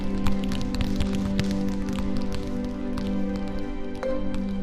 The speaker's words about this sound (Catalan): L'Alèxia es va tornar a tocar el tatuatge. Es va concentrar fort i de sobte van començar a ploure pilotes del cel.